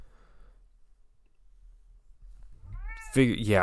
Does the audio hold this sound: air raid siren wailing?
no